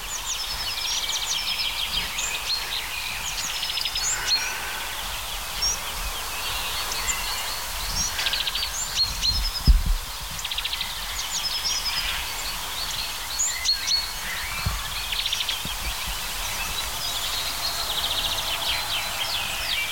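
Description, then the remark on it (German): A small songbird repeats a bright, sharp 'pink pink' call again and again, mixed into a busy outdoor chorus of other chirping birds, with no one talking. “Pink, pink. Ist es jetzt der Buhfink oder die Finkmeise?”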